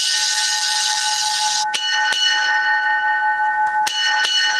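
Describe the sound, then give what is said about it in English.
Bells ring steadily with bright, sustained tones, punctuated by a few sharp strikes. A loud hiss fills the first couple of seconds, then fades. No one speaks. “Let's bring them all in and let's get the bells going.”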